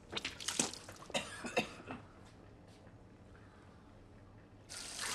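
tap water running

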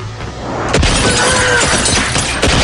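gunfire

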